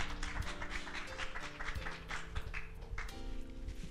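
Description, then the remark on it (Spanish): A crowd claps steadily for a few seconds as applause for the Lord, a dense crackle of many hands, with sustained keyboard or organ chords held underneath. “Le damos un aplauso al Señor en esta hora.”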